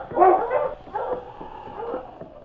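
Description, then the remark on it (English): The husky King, leading a sled dog team, barks as he sets off along the trail following a scent: three or four yelping, slightly whiny barks strung together over a couple of seconds, with no one talking. “Then, barking, he started toward the trail they had just traveled.”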